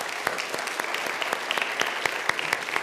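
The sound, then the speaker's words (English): A church audience applauds steadily to welcome the Holy Spirit, many hands clapping at once with sharper individual claps popping out irregularly over a dense, continuous patter at moderate loudness. “Can you please welcome the Holy Spirit with a clap of your hands?”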